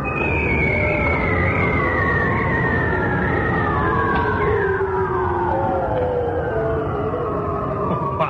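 Seals calling underwater: long, eerie, wavering tones that glide slowly downward in pitch and overlap, loud and continuous against a dense, rumbling underwater background.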